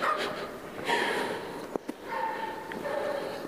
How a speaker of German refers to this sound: Na super, das eine Bellvieh fängt an zu bellen und lauter andere Bellviecher machen mit.